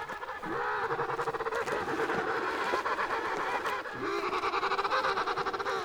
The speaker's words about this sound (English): These emperor penguins, made famous by the movie March of the Penguins, are the largest of all of these tuxedo-clad birds. They spend their lives on the Antarctic ice and search for food in the ocean waters.